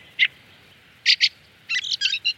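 Thin, high-pitched flight calls of a migrating fieldfare thrush, known as the herring spear, ring out against a quiet background: a single note, a pair of quick notes, then a rapid cluster of several calls, clear.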